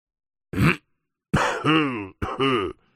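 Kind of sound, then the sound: human body sound, coughing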